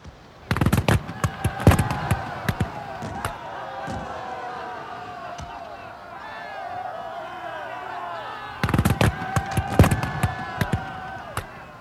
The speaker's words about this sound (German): Nach einem intensiven Verhandlungsjahr wurde im Juli 1650 der Nürnberger Exekutionskongress beendet. Und so feierte man schließlich das Ende des Dreißigjährigen Krieges, wie der Konflikt einst begonnen hatte, mit Kanonenfeuer und Musketenschüssen.